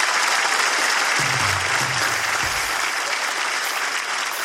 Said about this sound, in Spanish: Gracias. Muchas gracias. Los amamos. Un fuerte aplauso para toda la comunidad.